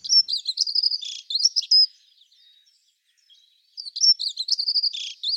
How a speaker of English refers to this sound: A dunnock bringing today's birdsong to a close.